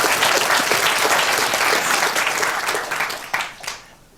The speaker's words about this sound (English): so please, some applause for him.